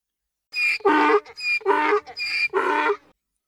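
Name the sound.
donkey braying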